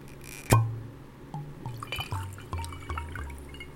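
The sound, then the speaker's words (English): A glass clinks down sharply, then liquid glugs into it in a series of short, gurgling spurts, fairly quiet, with no voices; the glass serves as a communal cup. “This glass will do. A communal cup.”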